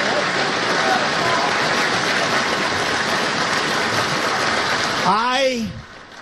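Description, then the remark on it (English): A crowd cheers and applauds in a steady, dense roar of clapping for about five seconds, then a single voice lets out a wavering whoop before the noise cuts off. “how are all these people cheering for this?”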